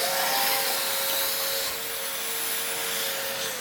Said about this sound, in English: This is to prove that a man can run a vacuum cleaner, amen.